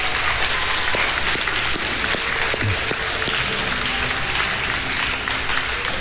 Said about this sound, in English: Now remain standing, but let's give our dads a big hand this morning.